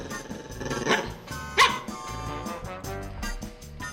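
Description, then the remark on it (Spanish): A man loudly imitates a dog as he comes down a stairway, letting out a few sharp barks in quick succession with no talking around them. “ese es el vecino de Malena, que baja así por las escaleras ladrando”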